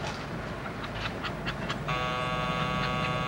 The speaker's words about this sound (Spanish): Chu oyó el tono de aviso de la lavadora y va a por más ropa.